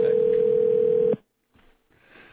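A steady, loud telephone dial tone hums for about a second, then cuts off abruptly, leaving faint line noise and quiet crackling.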